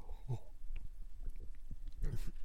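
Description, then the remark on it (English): Two wet slurping sips of Donut Shop Holiday Buzz coffee from a cup, one near the start and one near the end, with soft swallowing and mouth noises in between. No one speaks. “I almost took too big of a sip, and I almost started coughing.”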